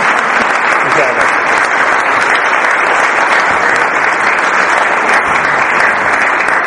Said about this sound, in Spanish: Démosle un aplauso, que estoy hablando de él. Muchas gracias.